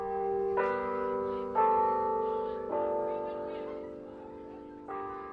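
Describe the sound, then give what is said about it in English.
The noonday church bell on the University of Dayton campus tolls four times at uneven intervals, each strike ringing out with rich, lingering overtones that blend into a sustained hum, heard clearly outdoors. “The noonday bell rings at the University of Dayton.”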